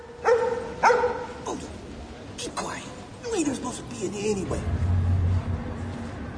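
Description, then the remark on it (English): A tramp's dog in a library barks twice in quick succession, loud, followed by softer whining and rising, sliding vocal sounds over a dull background rumble. “The security man looks at the tramp's dog.”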